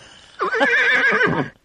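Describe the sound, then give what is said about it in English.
A horse lets out a single loud whinny lasting about a second, its pitch rising and shaking in a quavering trill before it breaks off. “And a war horse with a sword was with her.”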